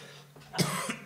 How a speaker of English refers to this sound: Can somebody grab me some water real quick? I've got a bit of a cough.